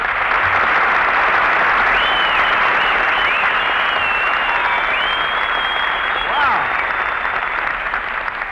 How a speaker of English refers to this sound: Well, listen to that, Mary. You got more applause than I did.